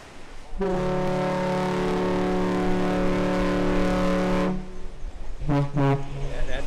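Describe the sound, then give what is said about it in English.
The Badger car ferry, beginning its round trip between Manitowoc and Ludington, Michigan, sounds its deep horn in one long, loud blast, then gives two short toots in quick succession as a salute, booming across open air with no talking. “Two toots like that, that's a salute to us.”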